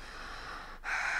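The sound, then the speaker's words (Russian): Audible breathing of a boy being examined by a doctor who tells him to breathe deeper: a long airy breath, a brief pause, then a stronger, deeper breath drawn in. No talking. “Так, дыши.”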